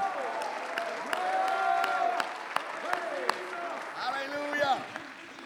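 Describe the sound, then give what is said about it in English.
A crowd claps hands steadily, with sharp individual claps cutting through the dense applause while many voices murmur, call out and sing along underneath. “Clap your hands, lift him up, magnify him.”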